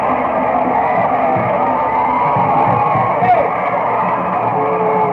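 A homecoming football crowd at Young High School roars and cheers steadily after a touchdown in the end zone, a dense wall of yelling and whoops that stays loud for the whole five seconds, with scattered shouts rising above it.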